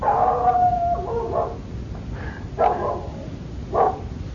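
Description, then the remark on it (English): A dog howls in a long drawn-out wail, then lets out two shorter yelping barks a second apart, clear against a steady low background noise, with no talking. “Thanks, dog.”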